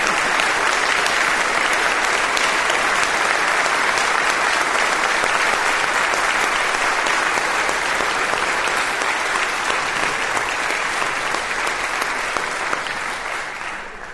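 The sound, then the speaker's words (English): A large audience claps steadily in sustained applause to thank a departing minister for her ministry, a dense, even wash of many hands that holds strong for about fourteen seconds before easing slightly at the end. “So I'm going to let people clap for you now and give you thanks.”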